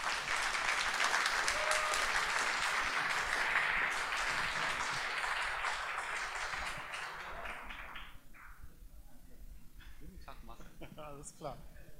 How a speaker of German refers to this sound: macht jetzt mal einen dicken Applaus und richtig Krach für den Marcel Tilly